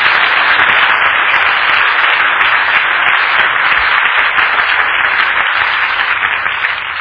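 A church audience gives Jesus a clap offering, breaking into sustained, dense applause, many hands clapping steadily and loudly for several seconds with no pauses and no talking over it.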